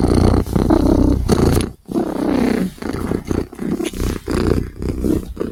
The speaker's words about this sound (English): And if Cat is purring, Cat is a happy, happy girl.